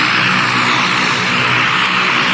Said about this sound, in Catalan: Bé, doncs, Eduard, suposo que ho sents. Estem ara mateix apropant-nos a l'avioneta.